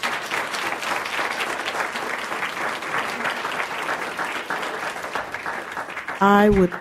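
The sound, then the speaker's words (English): An audience at a city public event applauds the police chief finalists steadily for several seconds, a dense, even patter of many hands clapping, with a loud voiced whoop rising above it just before the end. “Please join me in one more round of applause for all of our police chief finalists.”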